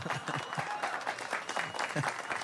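An audience claps steadily, a dense wash of many hands with a sharp, crackly texture that keeps up at an even level throughout, some voices faintly mixed in beneath.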